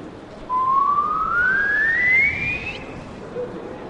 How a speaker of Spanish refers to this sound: vamos a ver si me vuelve a salir el silbido.